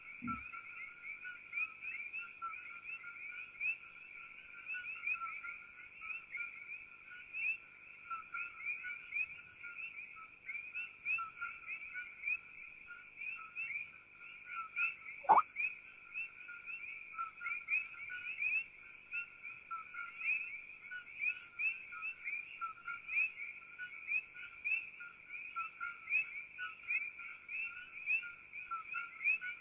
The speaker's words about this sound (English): These are called Koki frogs.